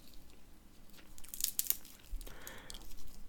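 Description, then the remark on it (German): Crisp crunching of peanuts in their shells being chewed, with several sharp bursts of crackle followed by a longer grinding crunch, fairly quiet overall and with no talking. “Trotzdem, ich mag das, dieses Knusper hier von der Erdnuss.”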